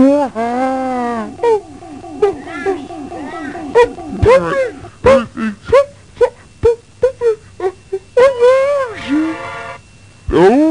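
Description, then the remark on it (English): A dog whimpers and whines in long, wavering, high-pitched moans, then breaks into a rapid series of short yelps and whines, ending with another drawn-out whimper. “I'm being attacked by a dog.”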